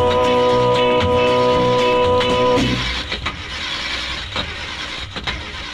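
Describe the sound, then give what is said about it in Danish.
A car engine starts up: a steady mechanical whine for a couple of seconds, then a rough, rumbling running sound with occasional clanks. No one speaks. “Ja, den bedste bil i verden er han, skal det nok forstå, så frem til fald han kunne få motoren til at gå.”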